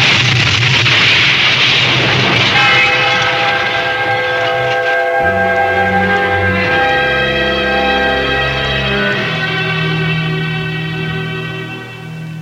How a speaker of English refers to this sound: The train.